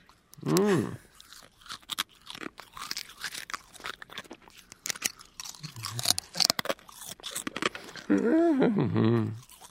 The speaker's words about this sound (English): Well, there's no reason. You're nervous. I'm the one eating glass. I mean, let's be very honest about it. Here goes. Oh, that was a good one. Tastes like chicken.